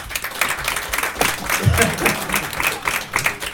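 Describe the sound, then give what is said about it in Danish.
An audience claps steadily for a few seconds to show they want to hear a story, a dense patter of many hands at a fairly even level with no voices standing out. “Men jeg tænker, at vi laver sådan en klappe-ting, hvor at...”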